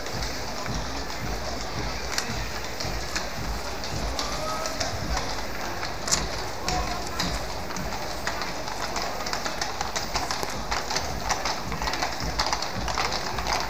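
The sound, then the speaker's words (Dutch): Steady clatter of horse hooves from the Golden Coach (Gouden Koets), with Royal Stables staff walking beside the horses, a dense run of sharp clops over a constant outdoor rumble, continuous throughout. “daarom lopen er ook naast de paarden medewerkers van de Koninklijke Stallen mee om eventueel te kunnen corrigeren”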